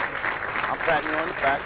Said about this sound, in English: Yeah, play that applause. We're going to applaud that 2,000 mark. You can put that, put that applause music in the back. Yeah, hit that up, man.